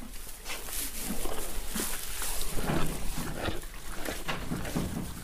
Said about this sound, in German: Und wenn man in den Pferdestall von Hausgeist geht und den Pferden beim Fressen zuschaut, kann man sehen und auch hören, dass es schmeckt.